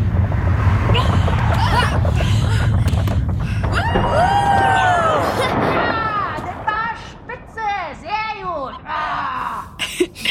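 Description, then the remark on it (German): A vehicle's engine rumbles, then it brakes to a stop with drawn-out squealing tones, followed by a run of short, rising-and-falling vocal cries as the rumble fades. “Wir sind fast an der Blase. Achtung! Gleich bremse ich.”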